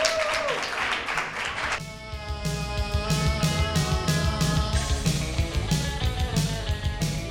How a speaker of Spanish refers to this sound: Te despedimos con un fuerte aplauso del público. Adiós.